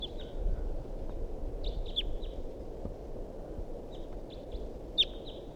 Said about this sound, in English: This is the vocalizations of a wild bird that's here up in the big pine tree above the net. Wild bird calls and decoys respond.